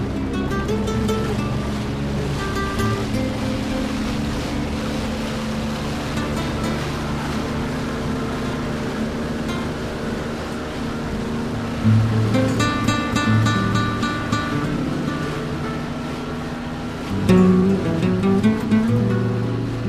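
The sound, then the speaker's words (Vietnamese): A fast motorboat roars steadily along the Seine in Paris at 46 km per hour, its engine droning with rising surges of power while spray and rushing water hiss beneath it, loud throughout, with no voices. “Trên sông Sen, đoạn chạy qua Paris với vận tốc 46 km một giờ, nhanh hơn cả vận tốc trung bình của xe hơi trong thành phố.”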